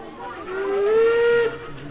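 A steam locomotive whistle sounds one long, steady tone rising slightly at the start, with rich harmonics over a breathy hiss, lasting about a second before cutting off, loud.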